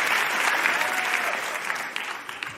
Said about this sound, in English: Clap, clap, clap, clap, clap, clap, clap, clap. Come on. You're good this week.